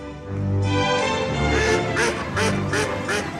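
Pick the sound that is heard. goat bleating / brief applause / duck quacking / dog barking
duck quacking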